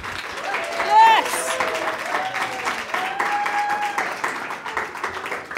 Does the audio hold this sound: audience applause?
yes